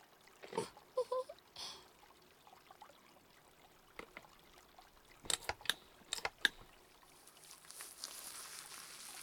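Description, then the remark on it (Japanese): Quiet fizzing of carbonated bubbly foam while washing someone's back, with scattered wet crackles and a few sharp pops, ending in a soft, steady high hiss. No one speaks. “私この炭酸シワシワの泡好きだな。”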